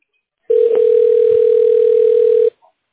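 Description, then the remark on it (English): A single steady telephone ringing tone sounds for about two seconds as a call to CLA is put through to reception, loud and clear, then cuts off abruptly into silence. No voices are present. “We're ringing you through to reception.”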